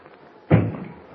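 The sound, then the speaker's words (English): A single heavy knock lands on a wooden door, fairly loud, its dull boom fading quickly with no one speaking. “Someone's at the door.”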